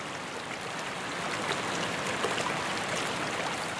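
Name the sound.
water flowing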